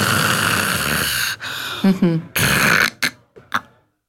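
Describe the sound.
A voice imitates the loud, rasping snoring of a person who snores, has an apnea and breathes again: a long noisy snore, a brief silence as breathing stops, a throaty gulp and another snore, then a few short snorting gasps before quiet.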